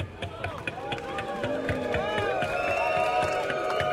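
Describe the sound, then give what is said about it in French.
An audience claps in scattered, uneven bursts while many voices call out and murmur together, the crowd noise swelling a little louder toward the end. “Bizarrement, vous l'applaudissez vachement moins celle-là, je ne sais pas pourquoi.”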